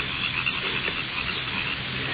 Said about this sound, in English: These crickets are getting on my nerves.